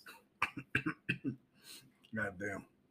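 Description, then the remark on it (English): A person coughs several times in quick, harsh bursts, then lets out a longer strained, sputtering cough as if choking, fairly loud. “I'm choking on my aspirations.”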